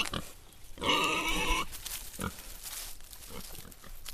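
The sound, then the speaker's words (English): Pigs kept on an organic, sustainable farm to provide fertilizer grunt, with one loud, drawn-out squealing grunt near the start followed by a few shorter, softer grunts against a steady outdoor background. “There's a wind turbine for power, a colony of bees to pollinate the crops, and chickens and pigs to provide fertilizer.”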